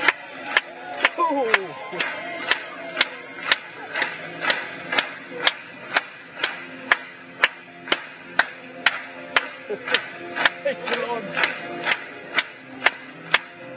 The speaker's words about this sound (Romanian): Hai să batem de palme pentru El.